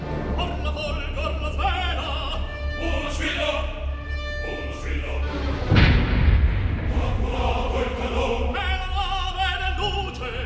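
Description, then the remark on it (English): A single heavy cannon boom bursts out midway through dramatic orchestral opera music with a chorus singing, its low rumble briefly swamping the music before the ensemble carries on; the cannon is fired by a foundering ship in a storm to show those on shore it is in trouble. “That cannon at the end was fired by the foundering ship.”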